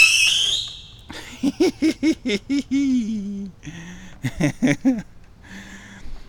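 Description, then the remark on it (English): A Whistling Jupiter firework launching: a shrill, high whistling screech fading out within a second, followed by a run of choppy, rhythmic vocal bursts, like laughter or excited yelps. “Whistling Jupiters.”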